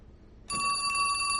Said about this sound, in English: She whirls toward the phone. He rises, then answers it.